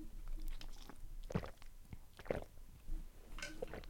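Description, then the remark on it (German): Someone drinking water: a few wet gulps and swallowing sounds at irregular intervals, fairly quiet, with soft mouth noises between them and no talking. “Ich trinke mal schon Wasser.”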